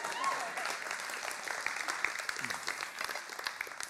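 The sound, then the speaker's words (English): An audience claps steadily for several seconds while the speaker takes a drink of water, a dense, even patter of many hands at moderate volume without letup. “Clap so I can have a drink of water, please.”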